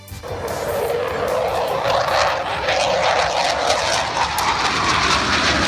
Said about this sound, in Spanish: ¿Cómo suena, eh? Es una pasada. Es que desde hoy hasta el próximo 1 de junio vas a poder ver una maqueta a tamaño real de un Eurofighter. Este sonido que estamos escuchando, el caza más moderno de Europa en la explanada de del cuartel general del